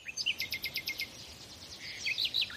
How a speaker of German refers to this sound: Erst habe ich nur ganz still in meinem Bett gelegen und den Vögeln gelauscht, die vor meinem Fenster gepiept haben.